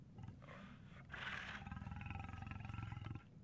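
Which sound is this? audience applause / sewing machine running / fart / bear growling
bear growling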